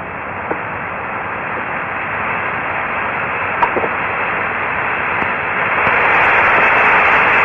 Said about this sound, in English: Apollo Houston, Mission Control in Houston, seems to have called Apollo 13 at the worst possible time when you hear the loud static, but that doesn't mean anything because quite often there's a voice.